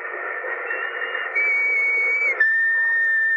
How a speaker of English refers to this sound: Remember that whistle? Yes. What about it? I think it might prove no end valuable in this particular emergency.